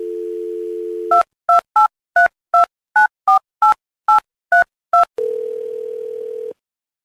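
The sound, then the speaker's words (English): A steady dial tone gives way to ten quick touch-tone beeps punched in a brisk, even rhythm, then a long, flat ringing tone, all loud with no voices; a phone call being placed by the Moog Show on radio station 91X. “We'll get Michelle on the phone, and we'll see if she will forgive and forget.”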